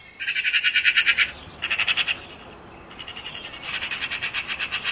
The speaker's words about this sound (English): She spotted someone familiar, a magpie singing with glee in a chirpy chirr. Choo, chirr, choo, and a sweet shwee, wee wee, shwee, wee wee.